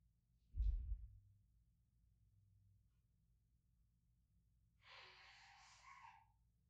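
A low thump, then a quiet stretch before a muffled, breathy nose blow lasting about a second, from a person who has walked away from the computer into another room. No one speaks.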